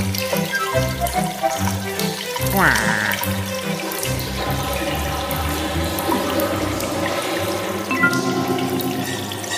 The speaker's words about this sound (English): All clear. Whew, that's the ticket. A nice, relaxing shower.